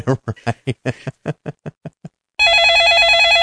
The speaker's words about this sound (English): Oh, phone's ringing. Hang on.